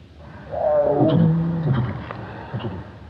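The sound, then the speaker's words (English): A human voice imitates a tiger's friendly chuffing greeting, called roosting, used to welcome a tigress: a low, breathy, rumbling series of snorts lasting a few seconds, fairly loud, with no other talk. “It's called roosting, which is roughly like this. That's to give her a welcome, and the cubs, and the little cubs will even do a foot-to-foot back, because they can do a mini one.”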